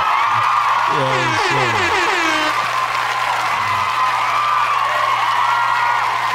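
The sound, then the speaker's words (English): A pre-recorded applause sound effect played from a sound pad: a steady wash of crowd applause and cheering runs the whole way through, with a few wavering, horn-like whoops rising over it early on before the clapping carries on alone. “I'm going to let your whole clap run through.”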